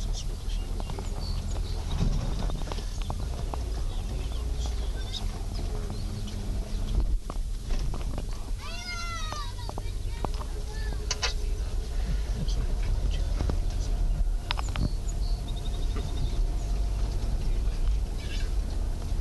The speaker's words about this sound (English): Now our boys are racing with the cows.